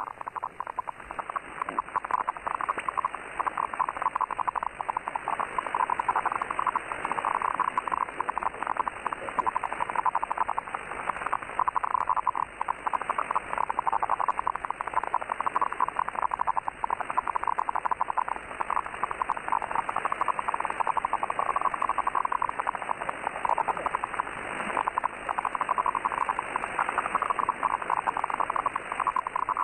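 A dense, continuous crackle of radio interference known as The Crackle, currently active and first heard interfering with weather stations: a steady stream of rapid pops and scratchy static in the midrange, with a faint thin whine sitting high above it throughout.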